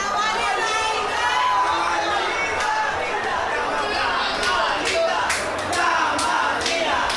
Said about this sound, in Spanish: ¿Sabes lo que es esto de fans? Están como locos gritando el nombre del grupo de las más lindas.